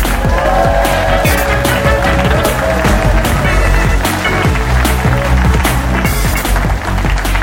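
An audience at the Leicester Square Theatre claps loudly and steadily as comedian Richard Herring is welcomed on stage, a dense crackle of many hands, with a few higher whoops or cheers rising over it.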